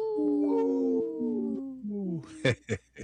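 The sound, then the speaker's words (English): A few wolves howl together in long, overlapping, downward-sliding notes, loud, ending with a couple of short sharp yips. “This portion of the show is supported by Howling for Wolves, protecting wolves for future generations. Howl!”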